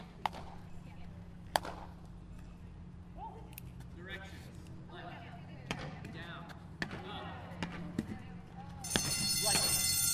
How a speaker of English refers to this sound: And there's the bell for the final.